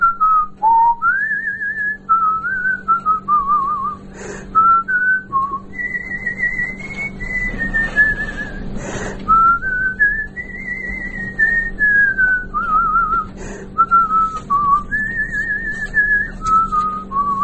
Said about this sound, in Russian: А так и по улице хожу, так я все насвистываю, что-нибудь. На балкон выйду, тоже все. Что-нибудь насвистываю.